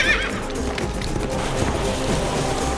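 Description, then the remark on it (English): Hooves of a ridden horse pound in a quick, steady gallop, loud, while the horse lets out a whinny near the start; the clattering rhythm continues throughout with no voices. “almost literally vaulted into the saddle, throwing down his hand for her to grab him at the wrist. We ride toward the aircraft.”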